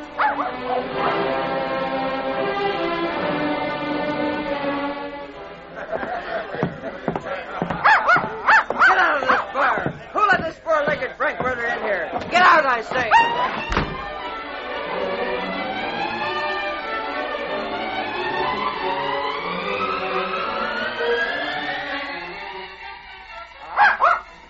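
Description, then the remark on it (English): A small dog with short legs, holding up one front leg and limping painfully toward town, whines in long, wavering cries. It then breaks into a rapid string of sharp yips and barks before settling back into drawn-out, pleading whimpers, fairly loud. “Finally, the little dog with one of his short front legs held up before him limped painfully toward town.”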